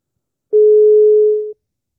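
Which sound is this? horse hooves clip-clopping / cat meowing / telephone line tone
telephone line tone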